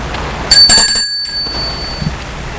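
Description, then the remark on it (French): An intercom rings with a bright, high bell-like tone, struck twice in quick succession, then rings out and fades over about a second and a half against a low background hum. A woman presses the intercom as she enters her home. “Elle entre chez elle, appuie sur l'interphone.”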